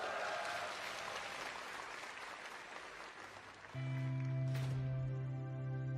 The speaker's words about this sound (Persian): مهمون ویژه امروزمون دوساگیه. اونجوری که شایستشون هست تشویقشون کنید.